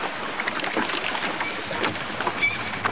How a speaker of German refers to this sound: Das Boot trieb langsam von der Insel weg.